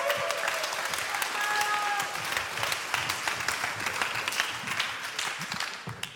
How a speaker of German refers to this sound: gib ihm einen fetten Applaus.